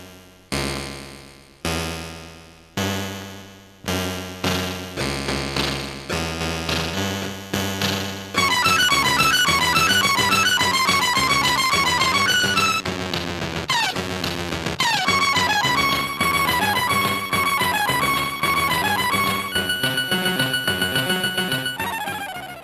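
Video game soundtrack music from the game 720 in a chiptune style: a few slow, spaced synth chords open, then a fast, bright, buzzy melody over a steady bouncing beat takes over, loud and without voices.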